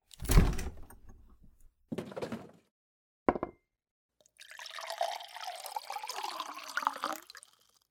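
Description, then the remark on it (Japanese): A few short clunks of a container being handled, then a steady pour of milk into a glass lasting about three seconds, the gurgling tone rising as it fills. “お風呂上がりだから、やっぱり牛乳がいいですよね。”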